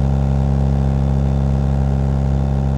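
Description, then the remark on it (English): A heavy diesel engine rumbles steadily at low revs in a low gear, fairly loud, with a deep, even drone as the overheated vehicle pulls away slowly. No voices. “Slipping the transmission into a low gear, he drove away slowly, babying the overheated engine.”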